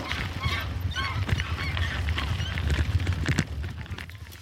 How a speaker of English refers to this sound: Oh, there's some geese crossing the road.